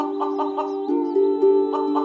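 A rooster clucks in a quick series of pulses, then breaks into a long, steady, loud crowing call with no other sounds around it.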